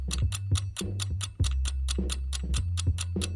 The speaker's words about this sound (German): Die Zeit ist rum. Das klingt in der Tat hier auch nach einem Wecker.